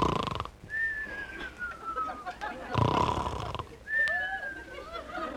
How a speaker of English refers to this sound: There he goes, Don. Every night it's the same thing, snoring and mumbling.